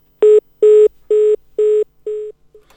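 A telephone line sounds a run of about six steady electronic beeps at an even pace after a dropped call, each lasting a moment, the final ones weaker and the last barely audible. No one speaks.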